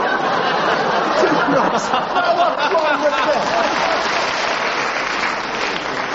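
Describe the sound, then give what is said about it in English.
An audience applauds a panellist's answer about sandhoppers, clapping steadily for several seconds, a dense, even wash of clapping with a little scattered laughter and murmuring mixed in. “The audience applauded them because they realised how cleverly Derek was avoiding saying anything which someone like Mary Whitehouse would not object to.”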